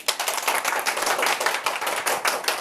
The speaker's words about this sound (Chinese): 请让我们用最热烈的掌声献给我们的